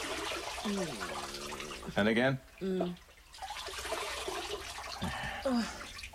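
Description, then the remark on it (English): Water runs steadily into a bath, a continuous rushing hiss under brief bursts of speech from a couple of voices. “Water coming.”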